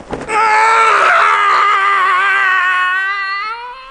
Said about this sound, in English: The regular early morning yell of horror.